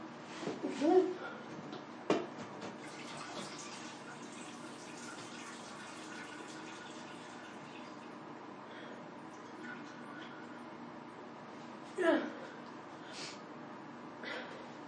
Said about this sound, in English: Bathroom fan. There's nothing to worry about.